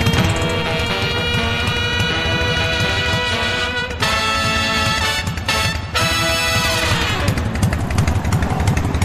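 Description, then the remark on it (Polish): A motorcycle engine rumbles loud with a steady throbbing idle, its pitch shifting as it revs and then winds down near the end, with no voices. “To wszystko są motocykliści. A motocykl mówi najwięcej o jego właścicielu.”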